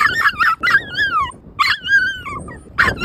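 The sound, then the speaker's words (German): A female dog barks and yips in agitation on a walk when another dog appears some way off, with sharp high-pitched yelps and drawn-out, falling whines coming in several loud bursts, with no one talking. “Und wir haben jetzt das Problem, dass wenn wir spazieren gehen und in einer gewissen Entfernung ein anderer Hund auftaucht, dann flippt sie komplett aus und das klingt dann meistens so.”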